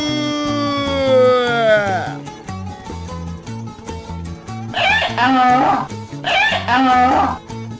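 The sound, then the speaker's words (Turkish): A donkey loaded with pickles brays in the streets as its owner, a pickle seller, calls out his wares: one long, wavering call that slides downward, then two shorter harsh hee-haw bursts later. A steady, rhythmic musical beat plays underneath. “Hoca turşu diye bağıracak olsa eşek de uzun uzun anırmaya başlıyormuş.”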